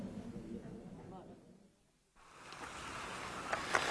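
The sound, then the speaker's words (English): A small rowing boat heads across open water to a cove, with a steady wash of lapping and splashing, a brief lull in the middle, then the watery noise swells back with a few sharp knocks near the end. “You can accompany us and Mr. Redfern there in the boat.”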